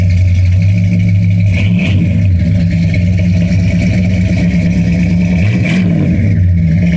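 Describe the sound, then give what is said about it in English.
The engine of a red 1965 Cadillac DeVille convertible rumbles steadily at a low idle, loud, with two brief revs that swell the pitch before settling back to a deep throb. No one speaks. “Many of you remember my red 65 Cadillac DeVille convertible.”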